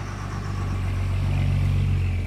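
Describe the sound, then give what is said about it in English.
The diesel engines of a boat pulling away from the dock in Hancock, Maine, heading to sea on a morning with light fog, throb steadily, a deep, loud rumble with strong low harmonic tones that holds even for the whole stretch, with no voices over it. “Listen to those diesels throb.”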